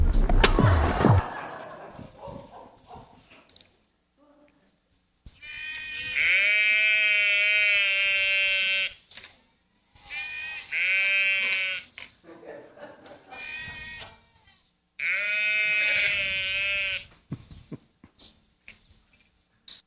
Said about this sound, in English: Here are a couple of very short video clips of sheep for you.